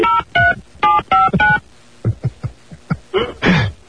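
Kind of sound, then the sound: signal or alarm, telephone number being dialed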